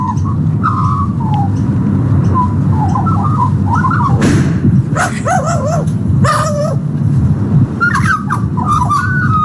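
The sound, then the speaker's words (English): A magpie, sitting on its own outdoors, calls with short, harsh cries closely mimicking a dog's bark, repeated several times over steady background noise with a faint whistle-like tone. “That was just the magpie. Just on its own, sitting there. Cawing, a dog's caw.”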